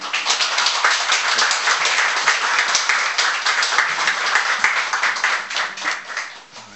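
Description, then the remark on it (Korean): An audience at Calvary Church breaks into loud, sustained applause welcoming a missionary speaker, a dense wash of many hands clapping steadily for several seconds before it begins to taper off at the end. “우리 나오실 때에 큰 박수로 또 이렇게 격려가 될수 있도록 이렇게 환영해 주셨으면 좋겠습니다.”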